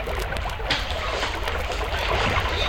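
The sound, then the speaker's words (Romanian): A steady, dense roar of rushing water from a waterfall, into which a raft has just fallen, fills the whole stretch at an even, fairly loud level, with no voices and no pauses. “Oh, s-a dus! A căzut în cascadă!”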